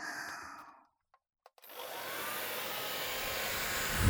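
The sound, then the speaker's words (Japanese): A hair dryer, used to dry someone's hair thoroughly, whirs briefly and cuts off, then after a couple of switch clicks it starts again with a steady, loud rushing roar that continues to the end. “ちゃんと乾かさないといけないから、ドライヤーするね。”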